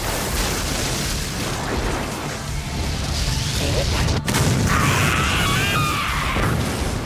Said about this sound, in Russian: Объединим две стихии. Ударим по ним всем, что у нас есть. Да! Магия грозы! Оглушающая молния!